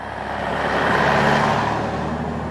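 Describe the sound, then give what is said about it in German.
A bus engine rumbles and roars steadily as the bus to a kindergarten in a town pulls away, a broad low drone that swells slightly and then holds, with no voices. “Proudly, she boarded the bus to kindergarten in the town.”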